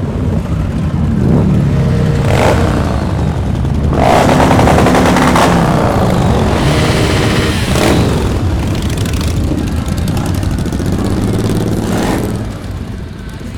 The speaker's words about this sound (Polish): Miód dla moich uszu, pokarm dla mojego serca. No, lubię motorki. Wyścigowe i sportowe.